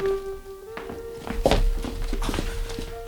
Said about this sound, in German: Dann endlich öffnete sich die Tür.